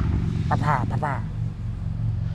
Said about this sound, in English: There's a loud car going by.